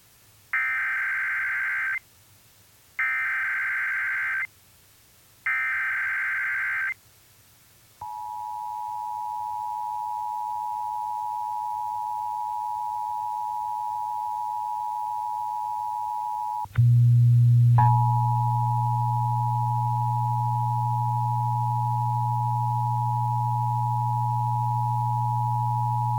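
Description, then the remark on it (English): Wisconsin Emergency Alert System test tones: three short, harsh data bursts, then a long, steady, high electronic tone. Partway through, a loud low buzz joins it, and both continue to the end. No one speaks. “This is a test of the Wisconsin Emergency Alert System.”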